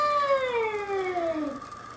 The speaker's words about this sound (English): You know, domesticated house cats, when they're freaked the fuck out, they make some of the craziest noises. Yeah. They do. By the way, this is a bobcat.